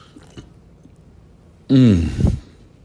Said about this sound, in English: Very nice. Nothing better than the sound of people drinking when you're listening on the radio.